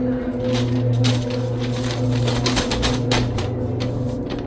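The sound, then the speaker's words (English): A paper bag is crumpled, with a steady run of irregular crinkly crackles lasting several seconds over a constant low background hum. “Then I heard a crushing sound of a paper bag.”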